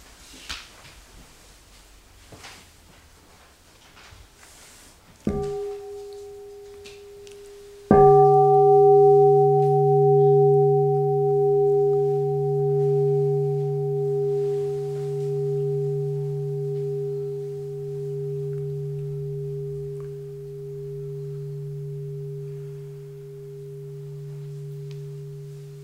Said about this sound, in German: Dazu würde ich gerne eine Glocke hören.